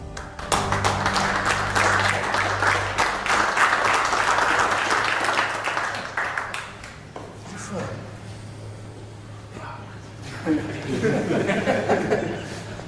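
A small group claps steadily for several seconds, the applause close and dense, then fades into low chatter and light laughter from a few people nearby.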